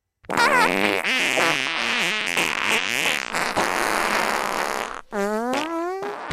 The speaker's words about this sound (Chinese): 听我的口令，姐妹们，脱下裤子，把你们的屁眼对准山洞里。三、二、一，放屁！